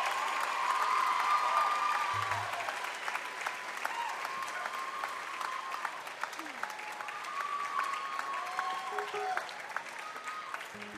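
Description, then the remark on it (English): A large audience applauds steadily throughout, a dense wash of clapping with a few scattered whoops and cheers rising above it, fairly loud before easing slightly. “This is an incredible crowd.”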